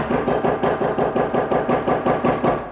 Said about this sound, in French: Je frappe les 3 coups.